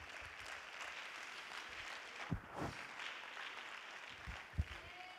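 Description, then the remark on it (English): A church audience at Tabernacle of Pentecost claps hands to the Lord in a steady, dense wash of applause lasting several seconds, with a few louder thumps cutting through around the middle and near the end. “You clap your hands to the Lord.”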